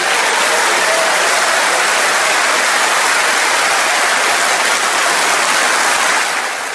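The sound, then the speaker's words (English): Loud, sustained applause from a large crowd for Truss's speech. It is a dense, unbroken wash of clapping that holds steady for several seconds before tapering slightly at the end. “So a great long round of applause there.”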